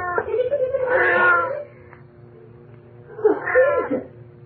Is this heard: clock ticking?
no